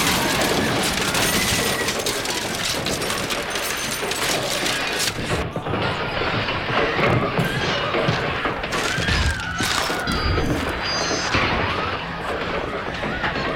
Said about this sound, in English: Everything is crashing. There's too much weight on top.